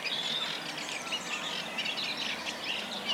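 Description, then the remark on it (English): A male reed warbler sings low down among reed stems, a continuous, scratchy, chattering song of rapid repeated notes, steady throughout, with no talking over it. “I can see the reeds moving, and he's right down low in the stems there. I know it's a he because he's singing.”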